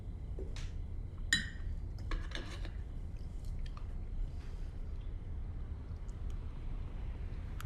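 Cutlery clinks against plates as a man eats his meal at a table, a handful of sharp, bright taps clustered early on, over a steady low rumble with no talking.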